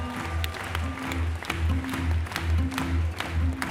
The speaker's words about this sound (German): das Publikum ist auffallend jung, filmt auch schon mal ganze Szenen während der Vorstellung ungeniert mit dem Handy mit und wirkt enorm begeisterungsfähig. Immer wieder gibt es Szenenapplaus und am Ende Standing Ovations.